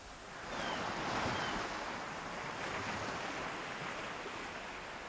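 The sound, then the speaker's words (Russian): Sea waves wash up on the shore on a windy day in a steady, broad rush of surf that swells after a quiet start and holds, fairly loud, with no voices. “Мы весело шагали по берегу, то и дело забегая в воду, в набегавшие волны.”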